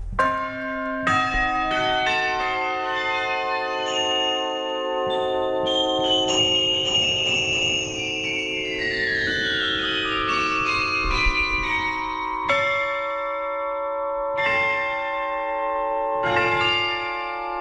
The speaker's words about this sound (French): Des petits marteaux actionnés par des moteurs ont été installés dans les cloches et tout est dirigé par un clavier.